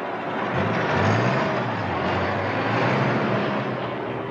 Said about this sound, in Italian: Io me ne vado. A me mi parte pure il pullman per la Dispoli.